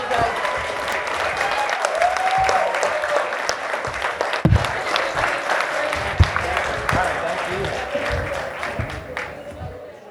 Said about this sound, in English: Armin Shimmerman and Ethan Phillips, folks. Big round of applause. Thanks, guys.